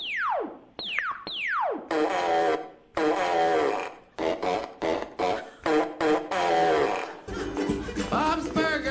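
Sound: fart noise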